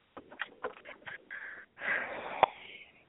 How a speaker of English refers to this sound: Yep, that's her. I can tell by her breathing. Hello. Always sighing.